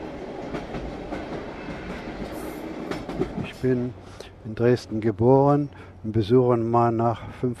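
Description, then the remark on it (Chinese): A moving train bound for Dresden, Germany, rumbles steadily with a dense, rattling low roar, heard alone for a few seconds before a man of nearly 80 begins speaking over the continuing rumble. “在火车的隆隆声中”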